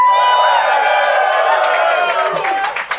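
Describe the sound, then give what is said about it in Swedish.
A live audience cheers and whoops loudly while clapping fills the background, a dense, bright crowd roar that holds steady for a few seconds before thinning out with scattered claps at the end. “Vi vill ha en liten reaktion från publiken”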